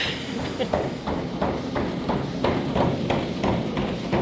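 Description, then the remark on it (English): Steady, evenly spaced hoof thuds from a horse walking at a relaxed pace on a treadmill at Massey University to warm up, with a continuous low mechanical rumble underneath, moderately loud. “Now we'll just walk and just get the horse limbered up and warmed up.”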